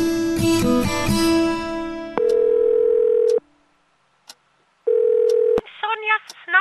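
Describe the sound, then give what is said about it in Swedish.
A quick burst of telephone dialing tones, then two long steady rings of a phone line with a pause between them, ending with a click as a voice briefly picks up. “Jag ringer dig och det snaraste.”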